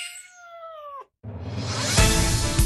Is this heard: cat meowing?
yes